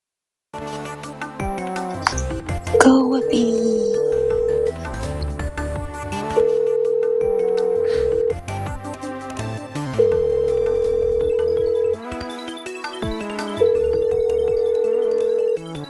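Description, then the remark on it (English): A telephone ringback tone sounds on an outgoing call, four steady buzzing rings of about two seconds each with pauses between, over a busy musical background. “We're doing the last phone call.”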